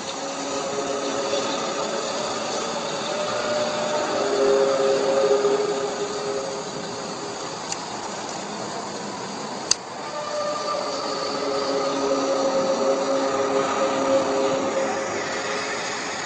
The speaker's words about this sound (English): The next one here is from Belarus. This was believed to be the first ever horn, trumpet sound, I should say, that was actually recorded. So this was from 2008 in Belarus.